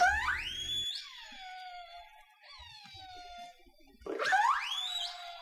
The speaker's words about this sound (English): These clicks are different than the squeaks and squeals killer whales make when vocalizing, which sounds like this.